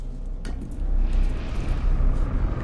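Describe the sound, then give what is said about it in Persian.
A deep, steady rumbling roar with a hollow, moaning drone, made by storm wind blowing into pipes. It swells louder after the first second and holds there, with no voices. “طوفان بادو میزنه تو لوله‌ها، این صدا تولید میشه.”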